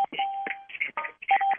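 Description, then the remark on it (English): A rapid run of telephone keypad dialing tones, five or six short electronic beeps of shifting pitch pressed in quick succession, with no talking. “And we're still hearing those tones.”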